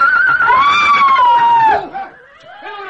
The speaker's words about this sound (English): look, the horses, they've gone mad. They're going to bolt.